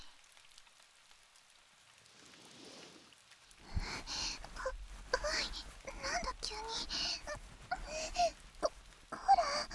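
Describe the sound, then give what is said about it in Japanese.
Someone crying: a few seconds of faint, breathy sniffling, then uneven, wavering sobs with shaky voiced moans and sharp breaths, fairly loud and broken into irregular bursts. “勇者くん？泣いてるの？”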